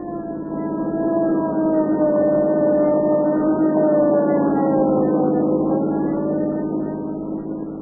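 An ambulance siren wails steadily for several seconds, responding to a call at the Venice Pier, its pitch sliding slowly down and back up, loud and sustained with a faint low rumble beneath and no voices.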